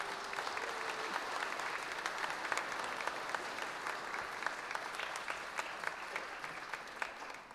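A steady round of applause from many hands, dense and crackling with sharp individual claps poking through, holding an even level for several seconds before tapering slightly at the end.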